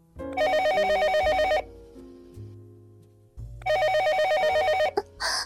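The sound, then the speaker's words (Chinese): A desk telephone belonging to a vice chairman rings twice, each a loud, close, rapidly trilling electronic bell lasting about a second, separated by a short pause with faint low background hum. “哥哥，副董，您的电话响了”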